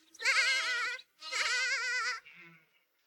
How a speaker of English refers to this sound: Where is my baby? Here's my lamb.